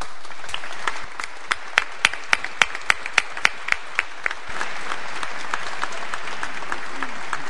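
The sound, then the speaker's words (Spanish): An audience breaks into sustained applause, a dense wash of many hands clapping, with a few sharper, regular claps standing out in the middle before the crowd's clapping continues steadily to the end. “Pido un fuerte aplauso para todos ellos.”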